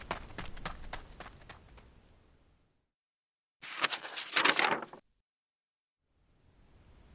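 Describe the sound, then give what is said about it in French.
Quick, evenly spaced running footsteps of a person crunch along a gravel road at night, then fade, followed by a short, louder burst of scuffing gravel after a pause. A thin, steady high whine runs beneath the first steps. “Alors il court sur la route de gravier jusqu'à ce qu'il arrive au bon endroit.”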